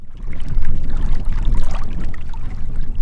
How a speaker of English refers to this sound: It's a cool, windy day in the foothills. Ripples and waves are blowing across the little reservoir outside of Superior's water treatment plant.